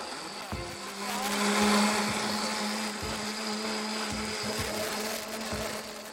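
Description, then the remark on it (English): A blender whirs continuously while grinding oats that have not been soaked long, started slow and then sped up, its loud motor hum steady with a gritty, rattling texture, swelling louder in the first couple of seconds before holding at full speed. “All right, so I'm going to start slow and then get faster here.”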